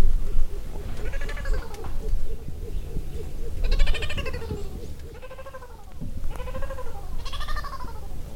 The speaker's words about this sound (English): Do you know what kind of birds that is? Morning dove. Morning dove.